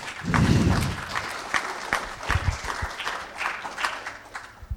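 A group of people applauds, a dense patter of many hands clapping at a steady, moderate level that holds for several seconds with a low rumble at the start.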